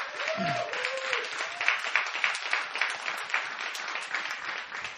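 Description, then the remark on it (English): A church audience breaks into steady, dense applause for a kids ministry leader, lasting the whole stretch, many hands clapping at once in a broad, even wash, with a brief voice or cheer rising at the very start. “she deserves a round of applause for all the hard work.”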